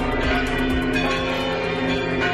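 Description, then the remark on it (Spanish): The bells of Santiago de Compostela Cathedral peal festively after 6 p.m., celebrating the white smoke and election of the new Pope, in a dense, continuous ringing, several bells overlapping with steady strikes and a long ringing hum, fairly loud with no voices. “Sonido de las campanas de la Catedral Compostelana que repicaron como en los días de fiesta pasadas las 6 de la tarde cuando llegaba esa fumata blanca esperada.”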